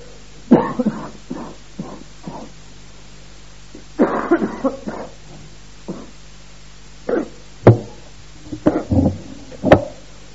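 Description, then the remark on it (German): A series of coughs comes in irregular bursts, several short hacking coughs close together, then pauses and more clusters, fairly loud with no talking. “kannst du mir mal den Husten abgeben, sonst wird das eine katastrophische Dimension annehmen.”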